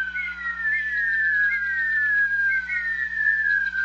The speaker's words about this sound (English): As the Rhea eggs are about to hatch, the chicks, while still inside the egg, begin to make a curious whistle. Imagine 50 or more, all whistling at once.